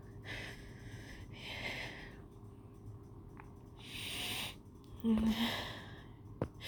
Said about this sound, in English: And hearing my reaction just encourages you all. But I do hear a few shocked gasps too.